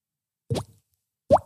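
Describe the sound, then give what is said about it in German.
Two short, hollow plops made with the mouth, imitating water droplets, each with a quick upward pitch sweep, spaced under a second apart with silence around them. “Oh, der war gut, der Tropfen.”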